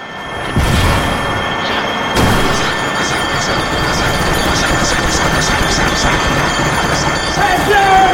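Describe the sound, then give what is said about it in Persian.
A fist pounds hard on a table and wall: two heavy, booming thumps early on, followed by a loud, dense rumble of clatter and noise with muffled voices underneath. “مشت میکوبه روی میز و دیوار.”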